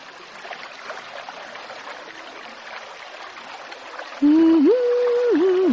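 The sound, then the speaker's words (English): A river flows steadily over pebbles, a continuous rushing babble, until a loud, sustained wavering tone abruptly enters near the end and rides over the water. “The river rolls on untiringly, grinding and polishing the hardest pebbles.”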